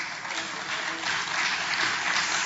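A steady crackle of audience applause fills the room, many hands clapping at once in a dense, even wash that holds at a constant level without rising or fading.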